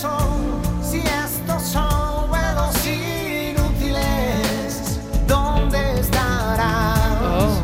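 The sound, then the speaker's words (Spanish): A pop song plays steadily and fairly loud on a car radio just tuned in while driving on regional roads, with a sung lead vocal over full band accompaniment, continuing without interruption for several seconds. “No he puesto esta canción queriendo. Ha sido al sintonizar, porque está sonando mucho en la radio”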